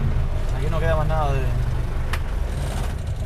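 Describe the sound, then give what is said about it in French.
A 1941 Chevrolet used as a shared taxi, fitted with an English Perkins diesel engine, rumbles steadily while waiting in a queue at the fuel pump, a deep, even throb that never lets up, with a brief indistinct voice rising over it. “Cette voiture, c'est une Chevrolet de 1941 avec un moteur Perkins, un moteur anglais.”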